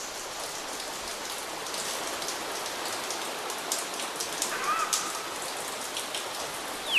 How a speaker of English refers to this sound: path leads ever upwards, passing a waterfall.